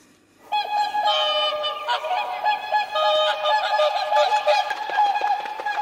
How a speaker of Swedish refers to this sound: En liten sångsvanfanfar tycker vi det är värt det där då.